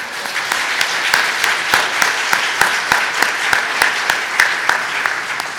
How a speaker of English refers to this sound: So if you're excited about that and you want to congratulate them, would you express that with applause right now?